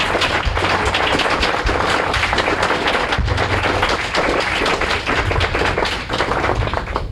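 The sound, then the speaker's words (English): A live audience applauds the guests steadily, with dense, continuous clapping that stays loud and even for several seconds and no voices standing out. “I want to, can we get a round of applause for these folks?”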